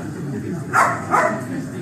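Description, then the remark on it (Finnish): A dog barks twice in quick succession, two short, sharp woofs, over a low murmur of people talking, at Helsinki-Vantaa airport, where COVID-19 detection dogs Kössi, a light-coloured dog, and Miina, a dark Labrador retriever, are presented. “Eli tämä vaalea koira tässä on Kössi ja tämä tumma labradorin noutaja tässä vieressä on Miina.”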